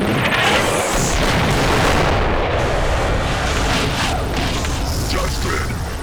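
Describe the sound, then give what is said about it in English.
Heavy cannon fire from a motorbike-mounted cannon pounds away in a rapid, continuous barrage mixed with booming explosions, loud, filling the whole stretch with a dense roar of blasts. “Bike cannon!”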